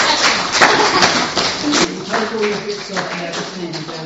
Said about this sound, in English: And so that was the story that Jesus told. Well done, should we give him a clap? Yeah.